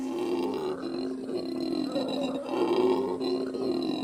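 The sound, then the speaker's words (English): Howler monkeys call from the jungle canopy: a deep, guttural roaring drone that rises and swells continuously for several seconds, loud and resonant, with no talking over it. “From the heights of the canopy, howler monkeys live up to their name with a racket that resonates through the jungle.”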